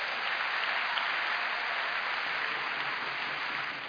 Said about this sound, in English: If you can clap your hands, you receive it.